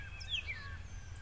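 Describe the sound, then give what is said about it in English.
Faint turkeys calling, a few brief high sliding notes over a steady low rumble of wind and background noise. “But you just heard those turkeys.”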